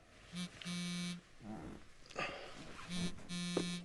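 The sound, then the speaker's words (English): A phone vibrates twice with an incoming text message, waking a young man in his 20s: a short buzz then a longer one, with a soft rustle in between, loud with no talking. “Johnny, a young man in his 20s, is woken by his phone.”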